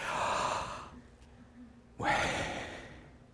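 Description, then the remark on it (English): Two loud, drawn-out breaths: a long airy inhale, a brief quiet pause, then an equally forceful exhale, deliberately exaggerated. “But Yahweh, it sounds just like breathing.”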